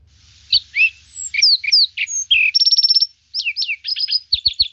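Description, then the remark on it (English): A lark sparrow sings at normal speed a varied, fast song of sharp whistled notes, buzzy trills and rapid repeated chips, clear against a quiet background with a faint low hum. “So first of all, here's a Mark Sparrow at normal speed.”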